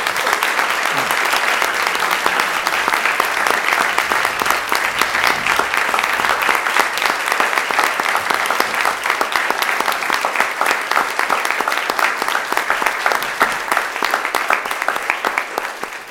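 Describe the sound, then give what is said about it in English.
A large crowd gives a standing ovation: loud, sustained applause, dense clapping that holds steady for the full stretch without fading, enthusiastic, for young world champions at a board gathering. “So I think we need to start off by giving these young ladies and gentlemen a very warm round of applause. Standing.”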